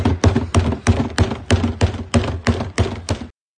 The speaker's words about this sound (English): That's a fan banging on a trash can right in behind the fence, very close to the batters. Get used to it, Astros.